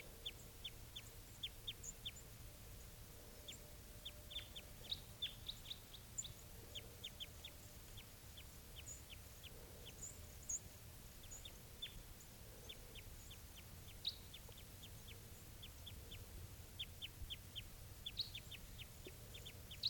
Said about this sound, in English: It's 7:37 now, and I think I hear a type 2 around here somewhere. Here it is, wild bird. It's a male or a female. Wild. Wild bird.